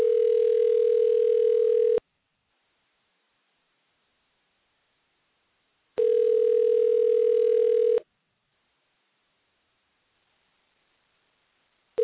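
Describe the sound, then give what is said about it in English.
A phone line's ringback tone: a steady, mid-pitched electronic purr sounding for two seconds, then four seconds of silence, repeating twice with a third ring just starting, and no voices. “I'm going to try to give her a call again.”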